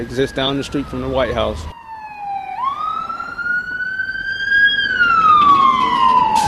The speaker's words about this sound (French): Sushi suit d'un regard blasé la voiture de police qui remonte la rue.